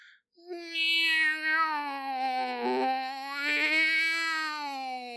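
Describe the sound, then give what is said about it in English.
A single long, drawn-out wailing cry from a woodpile at 9:30 at night in Arizona, like a strange blend of a yowling cat and a crying baby, rising and wavering loudly for several seconds with no talking around it. “It sounds like an adult man trying to imitate a baby and a cat at the same time.”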